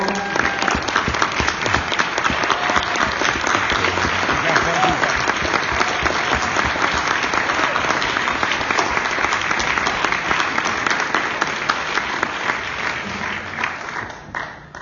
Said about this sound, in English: I apologize to whistleblowers in the audience. Can you please stand up because we want to give you another round of applause.